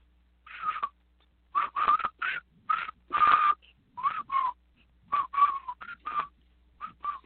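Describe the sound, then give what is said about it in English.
A person standing right beside a video camera whistles the march from the British film Bridge Over the River Kwai up close, a string of short, clipped phrases with brief pauses between them, no talking. “And whistled the whole stinking tune.”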